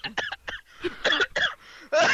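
A loud coughing fit: a string of harsh, raspy coughs and choking sputters in an uneven rhythm, with brief gasping pauses between bursts and no talking.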